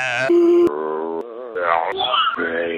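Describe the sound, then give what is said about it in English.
Listener-recorded zombie imitations: a voice lets out a string of harmonic moans and groans that waver and slide in pitch, broken by a sharp click and rough grunting bursts, loud throughout. “This will be the last time you might ever hear this to listener moans, groans, and grunts.”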